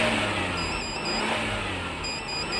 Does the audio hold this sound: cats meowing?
no